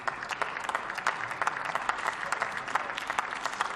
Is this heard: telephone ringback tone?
no